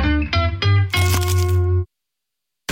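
A loud crunch of someone attempting a silent bite into a new crispy McDonald's McCrispy fried chicken burger, a few sharp crackling bursts over a steady humming tone, then sudden silence.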